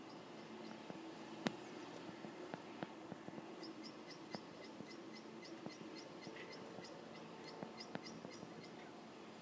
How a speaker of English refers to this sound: And the birds as well.